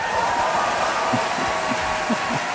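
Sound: audience applause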